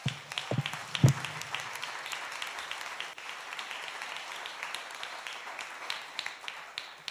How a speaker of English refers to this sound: And I just want to thank them and for their incredible leadership and their incredible teachings that they give us. So as a sign of honor, why don't we just give them a round of applause?